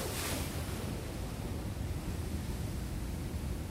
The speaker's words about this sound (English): The ocean.